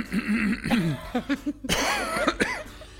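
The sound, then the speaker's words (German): A person clears their throat with a series of rough, voiced rumbles and a couple of harsh, cough-like bursts, loud and alone without any speech. “Sorry, nee, ich musste mich kurz räuspern, weil ich bin völlig, völlig außer mir.”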